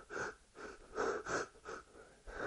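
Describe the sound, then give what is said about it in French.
Quick, shallow breaths from the upper chest, drawn in and out in a steady rhythm as a demonstration of shallow breathing, about five or six short airy puffs, with no talking. “nous allons respirer par la partie haute. Et l'esprit de prophétie appelle cela la respiration superficielle. Je respire comme ça.”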